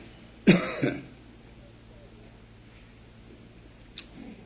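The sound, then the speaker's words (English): Two quick, harsh coughs, the second one shorter, like a throat being cleared, from a speaker who has laryngitis. A quiet background follows, with a faint tick near the end. “Remember hearing Churchill one time during a war make a speech, and he coughed all the way through it. I remember that, and it gives me a little consolation to know that the great Winnie,”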